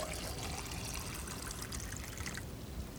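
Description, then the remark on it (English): Cheap, cold champagne is poured into cups, pouring steadily with a fizzy, trickling hiss for about three seconds, fairly loud, easing off near the end, with no talking. “I saved this. It's cheap champagne, but it's still cold.”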